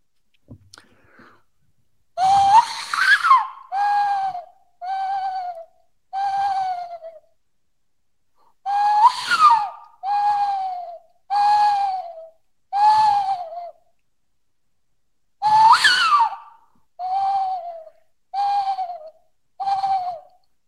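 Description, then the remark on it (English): A person imitates an owl call with breathy, hooting notes in three rhythmic bursts, each a rising first note followed by several falling hoots, loud with short silences between. “I practice my owl noises.”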